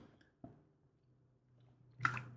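Quiet mouth sounds of someone drinking water: a soft gulp, a stretch of low murmur, then a louder wet swallow with a faint click near the end. No talking.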